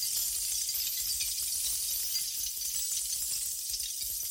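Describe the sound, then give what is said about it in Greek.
Avant-garde experimental music made of a dense, steady wash of bright hiss and crackling, clinking noise, with no clear melody or beat and no voices throughout. “Και εδώ, ενώ ακούγεται η ρηξικέλευτη μουσική”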